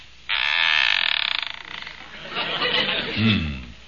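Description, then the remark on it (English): A loud, drawn-out squeaky creak of a gate swinging open at an old shack signed Ye Old Real Estate Office, a high grinding whine that stutters and wavers for over a second, followed by rougher scraping and a brief voice. “I ain't heard nothing squeak like that since they was putting Grandpa in the box.”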